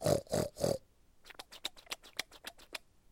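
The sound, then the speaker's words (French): A person imitates the sound little pigs make while eating: three loud, nasal grunting oinks in quick succession, then a rapid run of wet, clicking chomps and smacks, as if a piglet is gobbling food. “Et tout à coup, il a été intrigué par le bruit que faisaient les petits cochons. Ce qui était du côté du garrigue, quand il mangeait, cela faisait...”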